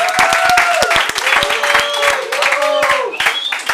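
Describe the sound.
A show audience bursts into loud, sustained applause for the first guest, dense rapid clapping filling the whole stretch, with some whooping or cheering voices rising over it.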